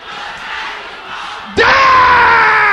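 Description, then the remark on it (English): A large group at prayer shouts a prayer together, a diffuse crowd murmur suddenly swelling at about one and a half seconds into a loud, sustained collective yell that fills the rest of the moment. “Can I hear you shouting this loud and clear?”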